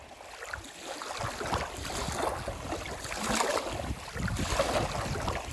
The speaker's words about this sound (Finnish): Merellä puhaltava tuuli voi olla säästä riippuen joko lempeä tai hyytävä.